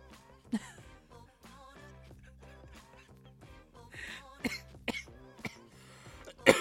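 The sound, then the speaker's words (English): Several short coughs and a throat clearing burst out at irregular intervals over a steady, quiet music bed, the last cough loudest. “I'm out here coughing and shit.”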